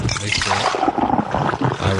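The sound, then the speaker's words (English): A wet, slurping sip of American Patriot beer taken right into a microphone placed at the corner of the mouth, with liquid trickling and bubbling sounds running steadily for about two seconds, fairly loud and unbroken by speech. “I will now take a sip of American Patriot, and you should not hear the bite.”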